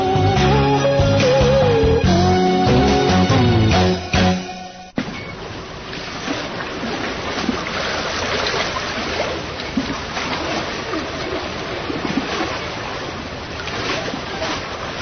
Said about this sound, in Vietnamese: Chiếc đò chèo từ ngoài vàm sông cái vô tới trong rạch